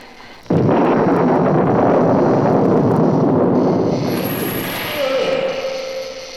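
A sudden loud crackling electrical blast from a bolt of lightning, received through an open skylight by a raised table to bring a monster to life, roars steadily for several seconds. Near the end a high whine joins it, then a lower humming tone as it gradually fades.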